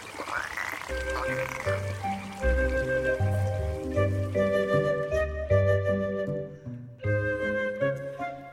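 A frog croaks in a steady run of deep, throaty calls, fairly loud, with no talking over it, ending in a few sharper croaks.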